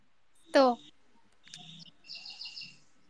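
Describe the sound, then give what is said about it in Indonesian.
A bird chirps in the background: one loud, sharp call near the start, then softer, higher twittering notes in a quick rhythmic series, with no one speaking. “Suara burung bapak siapa tuh?”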